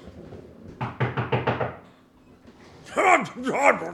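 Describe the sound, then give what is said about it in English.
Five quick, evenly spaced knocks rap on an office door, fairly loud and solid; after a short pause, a voice speaks. “Here we are at the door here. I'll just let me knock real quick.”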